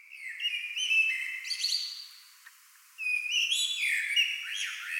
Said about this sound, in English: And I heard that sound and I was transported back to my childhood. Because when I was 3-4 years old, my family lived in an apartment in Paris with an echoey courtyard behind. And the only bird that would sing in the spring was this blackbird.